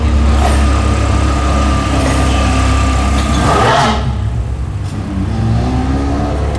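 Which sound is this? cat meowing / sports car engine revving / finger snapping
sports car engine revving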